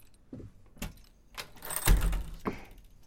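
Keys jangle and scrape as a lock is worked open, with several sharp metallic clicks and a louder clunk near the middle as the door unlatches, with no talking.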